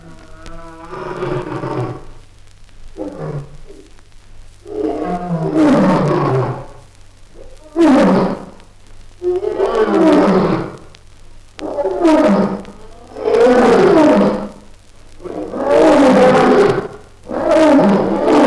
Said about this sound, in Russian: Как в пустыне в этот час по привычке даже в клетке громыхает грозный лев.